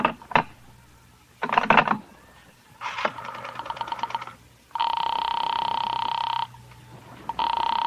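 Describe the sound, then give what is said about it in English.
A telephone call to Sing Sing prison being put through: a few clicks and rattling dial bursts, then a loud, steady buzzing ring tone on the line that stops and starts again, clear with no voices. “I waited for the call to go through”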